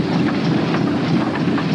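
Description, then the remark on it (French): An early steam-powered car rolls past with a loud, steady hissing rumble, broken by faint, evenly spaced clanks and chuffs from its machinery. No one speaks. “J'avais jamais vu une voiture qui avance sans chevaux. C'est la vapeur, fiston.”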